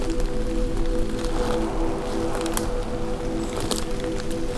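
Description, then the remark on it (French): Scattered water droplets drip and tap among fir trees, a few sharp little ticks standing out over a steady low rumble and a faint hiss of moisture, with no voices. “Gouttelettes d'eau qui s'écoulent.”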